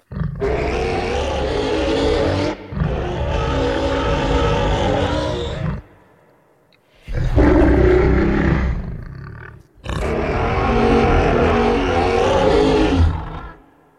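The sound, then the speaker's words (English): A series of deep, broad monstrous roars of an ice beast, made from a processed pig squeal: four long bellowing bursts separated by short pauses, loud with a rough, guttural texture and no talking. “And then also hear what you did to it to create the roar of the ice beast.”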